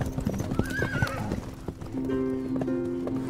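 Horse hooves clip-clop in a steady rhythm while a horse lets out a loud neigh, followed by a sustained whinnying tone; fairly loud, with no voices.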